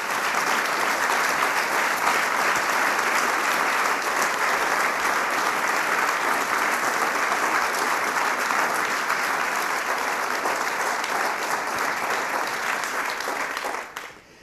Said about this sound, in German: Herzlichen Applaus für Maria Windhager.